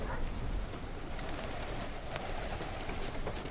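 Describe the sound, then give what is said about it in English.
Pigeons coo softly on a rooftop, low murmuring calls repeating over a steady wash of background noise, with no one speaking. “When I stop whistling and they lower out, they'll circle the roof, they'll come lower, they'll come lower, they'll come lower, they'll stay for a few minutes, and then they'll say, all right, it's safe to go down now.”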